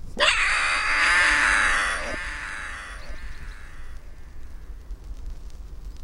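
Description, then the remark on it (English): A red-crested booming hawk gives one loud, harsh, high-pitched cry that holds for about two seconds, then trails off into a fading, quieter wail. “It hunts using the trait that gives this magnificent bird its name, its booming voice.”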